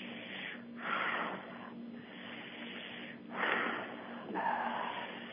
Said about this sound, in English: Breathe and squeeze. You can breathe faster than me or slower than me, whatever works for you.